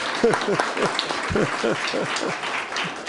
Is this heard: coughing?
no